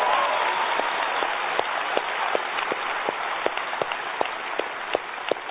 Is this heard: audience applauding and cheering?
yes